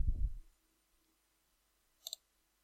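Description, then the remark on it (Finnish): A mouse button clicks once on a blue "add" button to enrol in a course, a crisp double-tick near the end of an otherwise quiet stretch, with a brief low muffled thump at the very start. “Siirrytään sen opintojakson kohdalle, jolle halutaan ilmoittautua, ja klikataan sinistä lisää -painiketta.”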